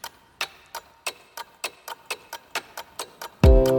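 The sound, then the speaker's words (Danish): A steady clockwork mechanism ticks about eleven times at an even, crisp pace before a sudden low, sustained tone swells in at the end; the ticking is tied to the 2014 Danish Christmas calendar series Tidsrejsen. “Vi skal helt ind i et urværk, bogstaveligt talt tilbage i tiden 2014, hvor julekalenderen Tidsrejsen fik premiere.”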